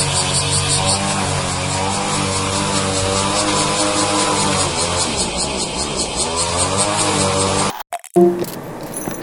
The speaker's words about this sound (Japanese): あの最後もこの草刈りのね音とセミのこううるさい声ともうだけでフェードアウトしていきましたけど